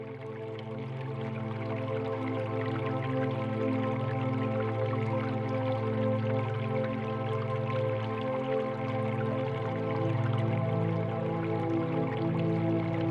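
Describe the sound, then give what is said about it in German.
A steady, soft wash of trickling water runs unbroken throughout, gentle and somewhat distant, like a small fountain splashing quietly with no voices present. “Ferne plätschert leise ein Brunnen.”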